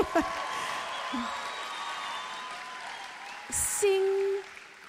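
An audience applauds for God in a steady, sustained wash of clapping that holds at an even level for several seconds, with a faint held tone rising over it near the end.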